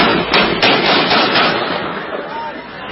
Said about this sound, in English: The sound of gunfire coming from a video on social media today reportedly showing Taliban fighters executing an unarmed prisoner thought to have fought alongside the U.S. military.